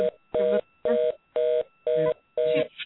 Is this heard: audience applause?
no